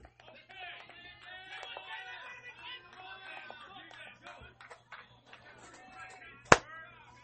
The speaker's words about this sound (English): So there's a mosquito right in front of the mic. Had to get that one, so apologies for the loud clap right in front of the mic.